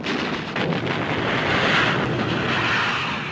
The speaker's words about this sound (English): In a 1973 CIA-supported coup, airplanes bombed the presidential palace, an attack captured by a TV news crew.